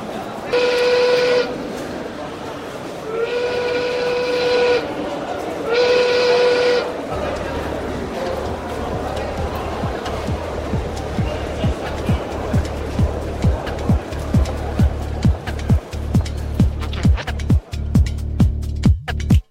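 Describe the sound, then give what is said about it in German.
A train whistle gives three long blasts, then the train pulls away from a station platform with a low rumble and steady wheel clatter on the rails that grows quicker and louder as it gathers speed. “Das Einsteigen, Zurücktreten von der Bahnsteigkante, der Zug fährt los.”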